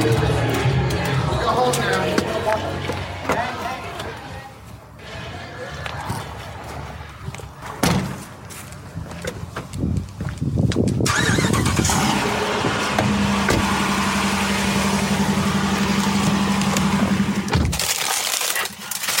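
Shuffling and knocks of someone getting into their car at the end of the night after a wedding, a solid car door thump, then the car engine starts and settles into a steady idle hum that runs to the end.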